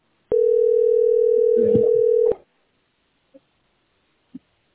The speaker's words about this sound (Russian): Как прогресс, звонит? Ну, вон, видишь, работает, как вон, звонок идет. Вот, вот он, видишь, вон, видишь?